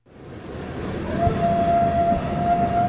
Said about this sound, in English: Not far from the site of the Battle of the Little Bighorn, a coal train rumbles through the Crow Reservation.